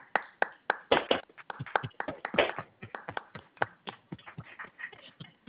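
Scattered clapping from a small group, with sharp irregular hand claps overlapping at a steady moderate loudness for several seconds and no voices.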